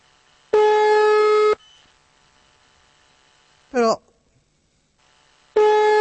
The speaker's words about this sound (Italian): Il telefono è libero.